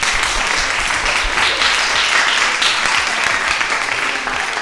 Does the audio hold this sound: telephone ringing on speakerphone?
no